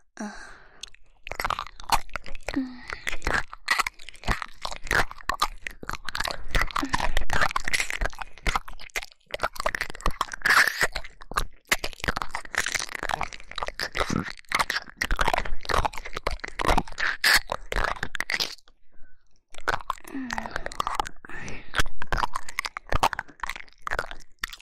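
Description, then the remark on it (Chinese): Loud, continuous crunching and chewing of hard candy, with dense rapid crackly bites and wet mouth sounds filling nearly the whole stretch, broken by a brief pause near the end before resuming. “给你一点糖吃。”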